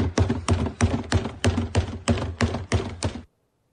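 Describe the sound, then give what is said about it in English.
At a baseball stadium, from the front row behind home plate during batting practice, someone bangs on a trash can 11 times in a steady, evenly spaced rhythm, each hit a loud, sharp, hollow thud, then silence. “I guess the best part of that particular episode of trash can banging is that the reporters who saw it said the guy took off running after those 11 bangs.”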